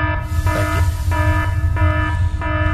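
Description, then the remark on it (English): A loud, buzzing alarm blares in four evenly spaced on-off pulses over a low rumbling background, with no one talking. “Please sound the alarm.”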